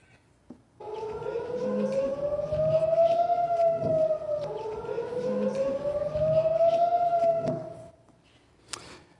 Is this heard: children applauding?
no